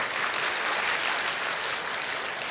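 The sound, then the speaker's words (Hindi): A crowd claps steadily throughout, a dense, continuous wash of many hands with no pauses and an even loudness from start to finish. “तो तालियां तो बजाओ जरा।”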